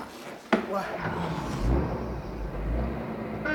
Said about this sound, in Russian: Поставим ящик в кузов. Помогай. Опа.